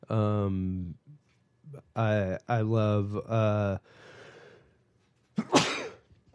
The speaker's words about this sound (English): excuse me. Wow. I love sneezing too. It's not often that that happens on the microphone.